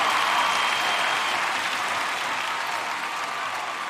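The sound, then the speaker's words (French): A large crowd roars furiously and without pause, a dense wall of shouting and clamor that holds steady for the whole stretch and fades only slightly toward the end. “La foule redoubla de fureur.”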